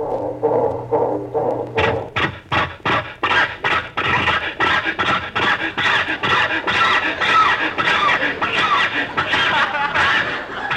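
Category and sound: vehicle, car starter cranking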